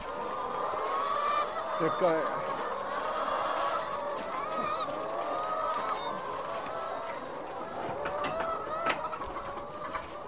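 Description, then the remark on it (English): A flock of red hens clucks continuously in a pen, their overlapping calls forming a steady, busy chatter for about ten seconds, with occasional louder squawks standing out. “And I have Colette from Spinnies on to me going, what happened to our hens?”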